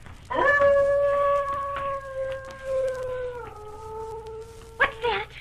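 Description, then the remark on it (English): A dog lets out one long, wolf-like howl, a steady mournful tone that sags slightly in pitch over about four seconds before breaking off into a brief rougher yelp at the end. “Probably a dog down the street howling.”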